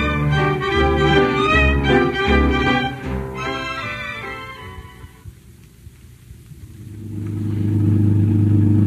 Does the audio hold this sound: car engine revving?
yes